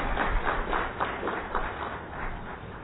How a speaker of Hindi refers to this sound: मुझे खुशी है कि आज के इस कार्यक्रम में हमारे बीच में सीनियर ऑफिसर्स देश के कोने कोने से आए हुए हैं, यहां तक कि नॉर्थ ईस्ट और अंडमान निकोबार से भी आए हैं। एक बार जोरदार तालियों से सबका स्वागत है।